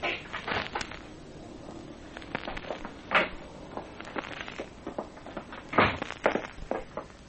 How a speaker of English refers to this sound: There's the station master's office, copper. That's it. Just in there. Well, go on, open the door and go in.